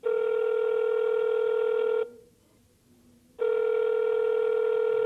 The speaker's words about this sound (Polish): No rzeczywiście, nikt nie odbiera, słychać wolny sygnał?